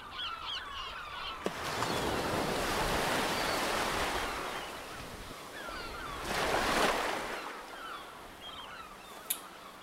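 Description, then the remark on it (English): Ocean surf rolls onto Solm Beach in the tidal zone on a warm, clear morning with blue skies, in two broad, hissing swells that rise and fade, with scattered bird calls chirping faintly over the wash. No one speaks. “sit in sand here in this tidal zone”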